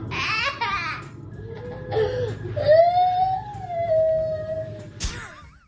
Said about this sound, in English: That's just crying. Tears. Oh, God. Yeah, it's not good.